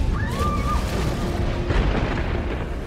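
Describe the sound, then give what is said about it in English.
A deep, steady roar of an ocean wave crashing down, a heavy low rumble filling the whole few seconds, with a thin whistling tone sliding briefly near the start. “There is only so much height any wave can sustain before it comes crashing down.”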